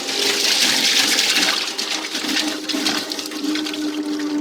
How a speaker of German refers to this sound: Je länger man jetzt diesen Holländer laufen lässt, umso feiner werden die Papierfasern gemahlen und verändern so die Charakteristik von Papier.